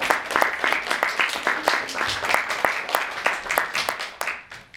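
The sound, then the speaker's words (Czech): An audience claps steadily, many hands producing dense irregular sharp claps in a sustained burst of applause for a girl from Březová who is being sent to the Zpívej Slavíčku competition in Kyjov. The applause stays fairly loud for several seconds and then begins to thin out. “Takže potlesk.”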